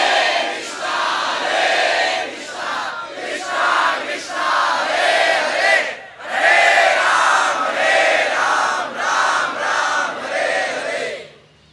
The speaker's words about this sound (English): He went to Kashi and meditated upon Sri Chaitanya Mahaprabhu converting Prakasananda Saraswati and all the Mayavadis, and how he inundated the entire Kashi with the tumultuous roar of millions of people chanting the holy names.